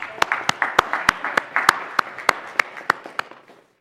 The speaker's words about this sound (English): If you were here and just were able to help yesterday, just raise your hands. I think that deserves another round of applause.